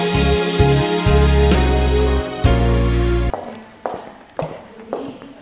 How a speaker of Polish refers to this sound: O te kroki, co państwo słyszą, to kierownik.